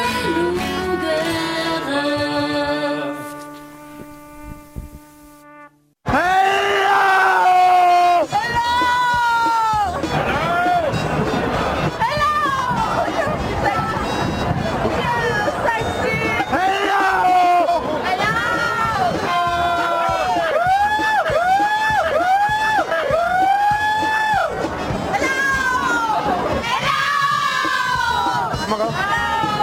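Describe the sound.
A carnival crowd cheers and shouts in a loud, continuous mass of overlapping voices, with rising whoops throughout. The cheering bursts in after a few seconds of steady tones that fade away.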